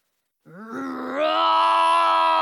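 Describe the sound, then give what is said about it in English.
A deep, growling roar of a big orange dragon that swells from a low rumble into a loud, sustained bellow lasting about two seconds, apparently voiced by a person imitating the creature. “Then I hear a thunderous sound.”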